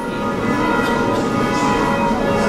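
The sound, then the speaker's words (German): Church bells ring steadily from the tall spire tower in front of the Roman Catholic church in Orschowa on a Saturday morning, calling people to a special service; their overlapping tones blend into a continuous, resonant wash at an even loudness, with no voices present. “Die Glocken im hohen Spitzturm vor der Kirche luden am Samstagvormittag zu einem besonderen Gottesdienst in die Orschowa römisch-katholische Kirche ein.”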